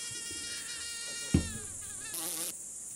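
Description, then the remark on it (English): A steady high-pitched whine of a mosquito in flight drones continuously, its pitch wavering slightly, with a soft thump partway through and a brief hissy surge near the end. “Mosquitoes are flying insects endowed with long legs.”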